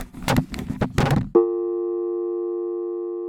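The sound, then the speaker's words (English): Choppy bursts of noisy, garbled crackle break off abruptly as a phone connection is cut, giving way to a steady electronic phone line tone that hums on unbroken, fairly loud, until the end. “The connection was abruptly cut off, leaving me listening to digital static for a few seconds.”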